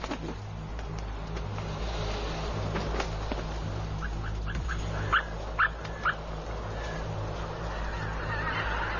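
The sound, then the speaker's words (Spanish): A handful of short goose honks ring out in a quick cluster midway through, over a constant low rumble of background noise with no one speaking. “Los gansos pasan la noche sobre aguas decrecidas, donde se sienten a salvo.”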